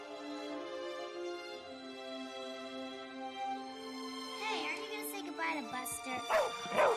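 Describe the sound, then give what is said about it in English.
A dog gives several short barks in the last few seconds, closely spaced and fairly loud, following a stretch of steady tonal sound that continues underneath. “Who's a good dog? Who's a good doggy?”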